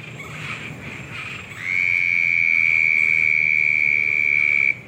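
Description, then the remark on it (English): A southern toad gives a long, steady high-pitched trill that starts a couple of seconds in and holds loud, over a busy background chorus of other frogs, including leopard frogs and Cuban tree frogs, and insects. “I think that's a southern toad.”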